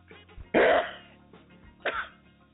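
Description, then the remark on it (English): A single loud, explosive sneeze bursts out abruptly, followed about a second later by a shorter, softer breathy burst, with no talking around it. “So get that sneeze out of the way, and we can get on with the show.”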